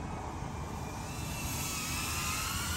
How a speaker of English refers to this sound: You got a drone flying up there pretty fast.